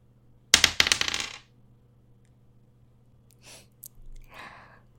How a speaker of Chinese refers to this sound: 那你起来，到你掷骰子了。